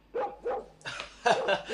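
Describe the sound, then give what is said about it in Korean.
A black dog barks frantically as it rushes out from beneath a watchtower by a village gate, in a quick run of about five sharp, loud barks, the later ones harsher and more ragged, with no voices. “망루 밑에서 검둥개가 미친 듯이 짖으며 뛰쳐나왔다.”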